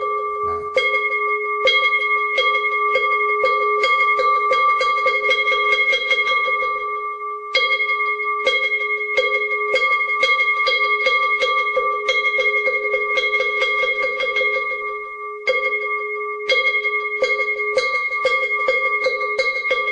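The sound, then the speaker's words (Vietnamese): At the start of a Buddhist service, a temple bell rings with a steady, sustained tone while a wooden fish is struck in rapid, repeated sharp knocks, forming three rounds separated by brief pauses. No one speaks. “Phật một lễ, và sau đó chúng ta cho ba hồi chuông và mõ.”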